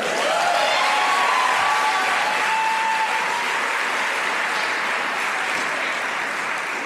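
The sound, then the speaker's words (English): An audience at the Library of Congress applauds at the opening reading of new Poet Laureate Tracy K. Smith, a dense wash of many hands clapping at a fairly loud, even level that eases off slightly toward the end, with a few faint whoops over it early on. “You may clap right now.”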